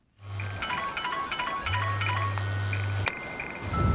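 A phone rings with a chirpy electronic tone in a repeating pattern over a low steady rumble. It is answered at the scene of a car crash and cuts off with a sharp click. No one speaks.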